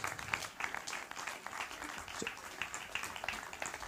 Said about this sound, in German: Kommst. Bitte einen kleinen großen Applaus. Komm mal vorne.